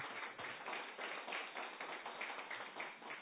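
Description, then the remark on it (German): An audience applauds steadily for the CZI, winner of the City of Linz intercultural prize, many hands clapping in a dense, continuous wash of claps that holds evenly throughout, with no one speaking. “Der verdient sich einen Applaus, seinen Interkulturpreis.”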